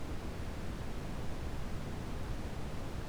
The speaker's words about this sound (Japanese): こういうのってブラウンノイズって言うらしいよ。落ち着けて集中力高まるんだって。